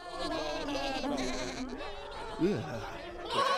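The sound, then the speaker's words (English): Several sheep bleat together in a wavering, overlapping chorus, fairly loud, with a sharper bleat near the end. “Hearing him lock and bolt the door, the sheep look disappointed.”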